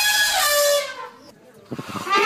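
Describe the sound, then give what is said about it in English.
An elephant in Cameroon's Bubajida National Park lets out a loud, brassy trumpet blast lasting about a second, then a few low rumbling grunts lead into a second rising trumpet call. “Elephants trumpeting have long been a familiar sound for locals here inside Cameroon's Bubajida National Park.”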